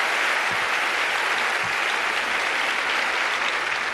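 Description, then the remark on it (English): A large Academy Awards audience claps steadily in a sustained round of applause for the night's winners, a dense, even wash of hand claps that stays loud throughout with no voices standing out. “Before I even go into this, let's have a big round of applause for all the winners tonight, huh?”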